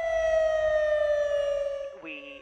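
An annual emergency warning siren test at the century-old Salmon Creek Dam near Juneau, Alaska, sounds a loud, sustained electronic wail that drifts slightly lower in pitch, then abruptly switches to a higher, wavering tone near the end. No voices are heard.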